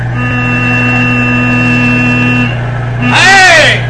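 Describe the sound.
A truck engine drones with a steady, tonal hum that holds evenly for a few seconds, then a loud shouting voice briefly cuts in over it near the end.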